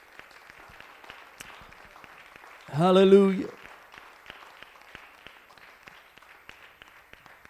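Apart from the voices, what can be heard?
audience applauding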